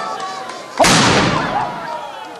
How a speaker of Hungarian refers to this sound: 1364 óta ágyúdörgéssel veszi kezdetét a mulatság a Fiera, a Ramivár tövében.